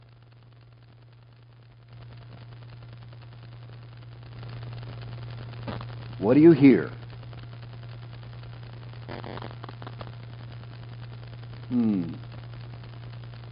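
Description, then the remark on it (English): A steady low electrical hum runs throughout, joined by a soft, even whoosh of a fan and an air conditioner that grows slightly louder partway in, with a voice briefly speaking over it twice, as an audience at a slide presentation sits still and listens. “I hear a fan. I think I hear the air conditioner back here.”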